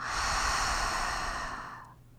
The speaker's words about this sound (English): So when you're ready, breathing in through your nose and out through your mouth.